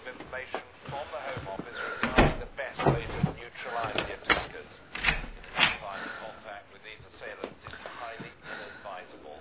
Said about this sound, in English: I'm going to shut the front door.